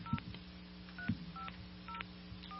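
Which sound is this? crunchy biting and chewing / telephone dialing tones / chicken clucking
telephone dialing tones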